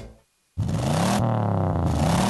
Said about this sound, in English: Hear that? That's your engine telling you something.